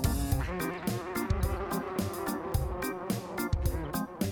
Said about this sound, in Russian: Цыц, цыц, муха, не жужжи, кыш, кыш, муха, не кружи. Назойливая муха, ни голоса, ни слуха, ни голоса, ни слуха, назойливая муха.